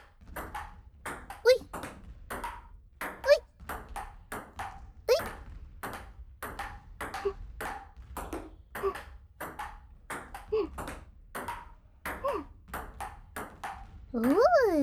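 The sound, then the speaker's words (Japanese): A table tennis ball bounces back and forth in a quick, steady rally, returned alternately to the left and right, each hit a sharp, bright click repeating every half second or so, with a voice speaking briefly in between. “音だね。ピンポンピンポン。”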